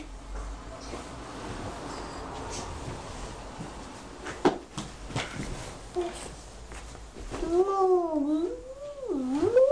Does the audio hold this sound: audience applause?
no